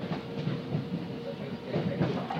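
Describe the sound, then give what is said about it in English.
A train rolls steadily along the rails, its wheels beating out a regular clickety-clack over a constant low rumble. “Anyway, I'll just let you hear a little bit of the train, but I can't keep it going too long, because otherwise it won't upload.”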